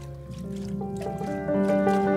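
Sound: whales singing underwater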